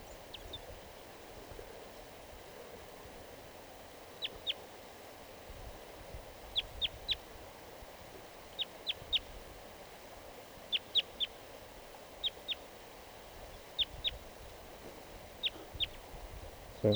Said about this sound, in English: A crossbill just, I just noticed it. It's singing here in the tree behind the net.